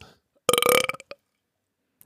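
A single loud, deep burp erupts close to the mic, lasting about half a second with a raspy, rumbling tone, followed by a couple of short throaty aftersounds and then quiet.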